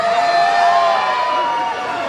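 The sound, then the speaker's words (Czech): A crowd of children in an evening audience shouting and screaming loudly all at once on request, a dense, high-pitched sustained roar of voices that holds steady for about two seconds, dipping slightly at the end. “Pořádně nahlas zakřičte všechny děti tady dneska večer.”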